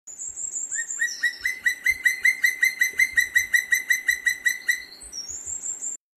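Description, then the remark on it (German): A loud bird call rings out in a rapid, even series of repeated notes for about four seconds, framed by thin high whistles at the start and end, with no voices. It is a territorial call, also called song, that marks the bird's area, carries very far and is tied to breeding, courtship and deterring others. “Und auch dieser Ruf ist sehr typisch, sehr weit zu hören, auch sehr laut.”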